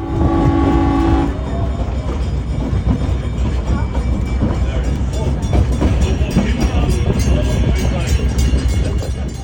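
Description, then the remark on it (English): A historic train rumbles along the rails out on the Ewa Plain with steady clattering and a loud low drone, opening with a brief horn-like tone before the rolling noise carries on continuous. “Back in 2025, we jumped on a historic train out on the Eva Plain.”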